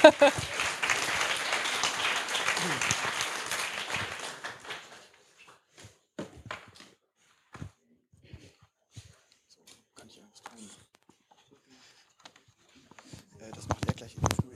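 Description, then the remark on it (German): An audience bursts into steady applause for a team and its mentors, and for a team member's birthday the day before, for about five seconds before it fades out, leaving quiet with scattered taps and small shuffling noises, then some rustling near the end. “Ja, dafür nochmal einen Applaus.”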